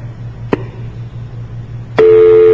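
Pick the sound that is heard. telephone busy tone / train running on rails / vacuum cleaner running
telephone busy tone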